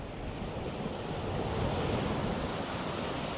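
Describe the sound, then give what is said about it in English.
Sea waves wash steadily onto the shore of the coast in a continuous rushing roar that swells slightly midway, heavy in low rumble with a hissy spray on top, and no voices. “we see there that she is sea swimming”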